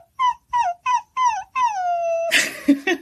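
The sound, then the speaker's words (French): A human voice mimics a whimpering puppy as a singing exercise, the "puppy sound", used to reach high notes: four short, high whines in quick succession, then one long whine sliding downward, ending in a breathy, rough burst. Clear, with no talking. “Faire le petit chiot.”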